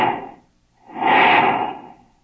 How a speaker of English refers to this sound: Then comes flight time and the sound of planes. Great multimotor giants. And the whoosh, whoosh, whoosh as you watch the jets go by.